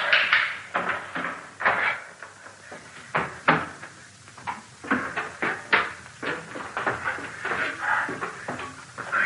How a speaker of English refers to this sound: Unlock the door.